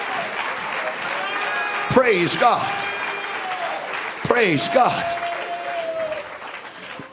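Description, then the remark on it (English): An audience claps steadily throughout, a dense, even wash of many hands, while a man's voice rises over it twice with a short exclamation. “Clap your hands and love Him tonight.”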